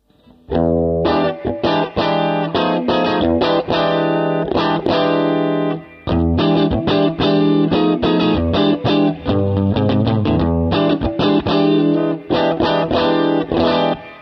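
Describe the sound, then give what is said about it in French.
Clean electric guitar, plugged into a Kelt V-Twin pedal with no other pedals active and a small stereo reverb from the mixing console, played on the bridge and neck pickups, plays a steady run of strummed chords and picked notes, loud, with a light stereo reverb tail and a brief pause midway. No one speaks. “la pédale est la toute première dans la chaîne, j'ai pas d'autres pédales qui sont activées, j'ai une toute petite reverb stéréo qui est activée au niveau de la console de mixage, et ça nous donne ça donc pour le son clair.”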